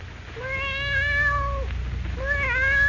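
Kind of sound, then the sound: animal, cat mewing plaintively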